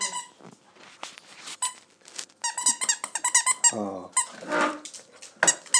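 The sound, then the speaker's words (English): A squeaky dog toy squeaks over and over in loud, high-pitched bursts, quickening into a rapid, irregular run of shrill squeals, with a brief spoken exclamation near the start. “Oh, lovely squeak, isn't it, sweetheart?”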